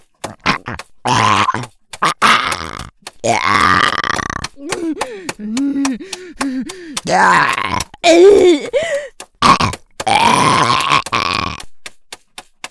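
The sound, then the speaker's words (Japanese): A series of loud burps, several rising into a squeaky, high-pitched falsetto tone, with gurgling, warbling stretches between sharp bursts and brief pauses. “出た、鼓膜つんざく高音、裏声ゲップ、爽快感やっば、残響がマコに響いてるし、よぎまじい。”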